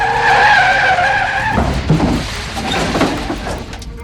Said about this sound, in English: The tire-squealing, smoking Mercedes fishtailed off the highway exit.